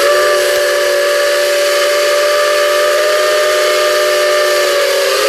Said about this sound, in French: Oui, un train. Ouais, un train. À vapeur. Locomotive à vapeur, voilà, très bien.